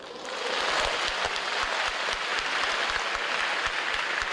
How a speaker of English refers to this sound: Well, that was at a machine learning conference in China. It's not often, actually, at academic conferences that you do hear spontaneous applause.